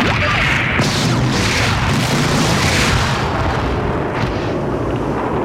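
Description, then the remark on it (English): A loud, sustained explosion boom with deep rumbling and crackling, a heavy blast that roars steadily for several seconds with no voices present. “From the primordial explosion emerged the fire of chaos.”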